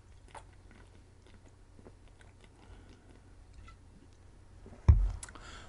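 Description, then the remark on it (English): Someone drinks a beverage during a break in quiet sips and swallows, with small wet mouth clicks, then a louder gulp near the end. No one speaks. “Drinking break.”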